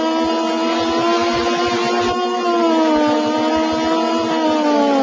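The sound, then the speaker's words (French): A steady, buzzing retro video game racing car engine drone from the game's ST version soundtrack, with harmonic tones gently rising and falling in pitch, loud and continuous throughout, with soft intermittent low thumps underneath and no talking. “La bande sonore n'est pas en reste, le bruit du moteur est réaliste et l'on entend même le bruit du vent sous le pont et le grombrissement des autres bolides.”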